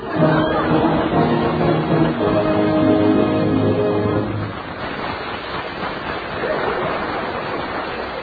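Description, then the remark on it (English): A steady, rushing hiss of water spraying out in a continuous jet, loud and unbroken, with a humming tonal layer under the first half before the spray carries on alone. “That jet of fresh, pure moisture stands for the new, all-new Rolly 903 cigarette.”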